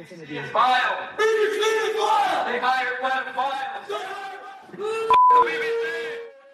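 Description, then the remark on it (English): A crowd of supporters shouting abuse, many raised voices yelling at once in a loud, chaotic clamor, with a brief electronic beep cutting through near the end. “And then a crowd of supporters came shouting abuse.”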